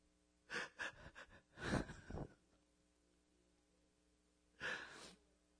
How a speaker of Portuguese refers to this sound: quando eu estava preparando isto hoje, eu chorava como eu choro agora.